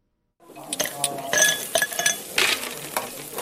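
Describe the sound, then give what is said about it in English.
Bright, ringing clinks of ice hitting a glass to cool a drink at a barbecue on a hot Sunday afternoon in the suburbs north of Cape Town, several in quick irregular succession, fairly loud, over a soft background hiss. “Meat sizzles on the barbecue, ice hits a glass to cool a drink.”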